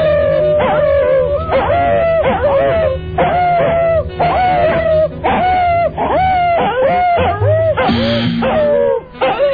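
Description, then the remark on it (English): A dog barks in rapid, continuous bursts, 45 barks in all, while a woman howls steadily underneath, imitating a dog. Loud throughout. “I counted 45 barks. I actually got them underneath the lady's howling.”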